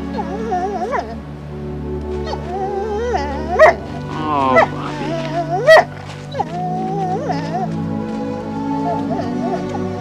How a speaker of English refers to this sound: And we see this poor dog, like, crying and stuff.